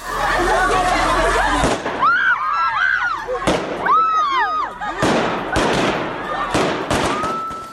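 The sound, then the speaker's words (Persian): Several sharp, loud bangs of Taliban security forces firing into the air crack out at irregular intervals as they disperse a women's protest in Kabul, Afghanistan, amid a crowd of shouting and high-pitched screaming voices, with chaotic chatter filling the gaps between shots. “اعتراض شماری از زنان در کابل امروز با استفاده از موترهای آب پاش و فایرهای هوایی نیروهای امنیتی طالبان پراگنده شد.”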